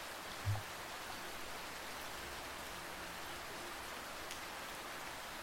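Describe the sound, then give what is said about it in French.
Steady rain falling in a continuous, even hiss, with a soft low thump near the start and a faint tap later; no voices, just the dense patter filling the space. “C'est un phénomène amusant qui a été étudié par des chercheurs et qui pourrait s'expliquer par une combinaison de raisons, et notamment par la musicalité et le rythme de la pluie qui tombe.”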